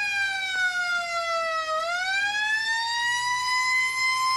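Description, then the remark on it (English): A single siren wails steadily, its pitch sliding down and then climbing back up in one long sweeping cycle, loud with no voices. “Siren.”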